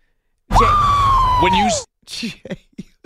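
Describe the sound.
Caleb Williams lets out one loud, sustained, high-pitched screech of excitement about being drafted, lasting over a second, its pitch holding steady then sliding down at the end, followed by a few short bursts of speech.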